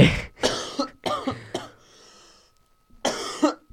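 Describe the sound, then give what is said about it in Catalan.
A fit of harsh coughing: several rapid coughs in a burst, a short raspy pause, then two more coughs near the end. No speech. “Saps per què et passa el que et passa això? El què? La tos.”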